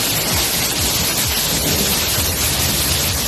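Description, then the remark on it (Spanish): A heavy rainstorm with hail roars steadily and loudly throughout, a dense hiss of pouring rain with low, rolling thunder rumbling underneath. No voices are heard. “Este viernes la tónica dominante han sido las fuertes precipitaciones que han venido acompañadas de tormentas y hasta granizo.”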